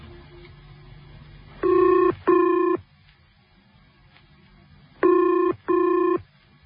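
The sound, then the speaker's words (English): A telephone ringback tone heard over the line as a call is placed from Salisbury Station: two short double bursts of ringing, each pair closely spaced, separated by a pause, over a faint low hum with no talking. “I'm ringing you from Salisbury Station.”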